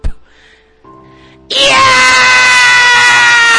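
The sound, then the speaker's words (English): After a brief quiet stretch with a faint low hum, a loud, harsh, exaggerated scream bursts in and holds steady to the end, the acted cry of Vegeta as he is electrocuted by Pikachu's electric attack and falls over. “Screamed Vegeta as he fell over for what seemed like the 100th time since he first met Pikachu.”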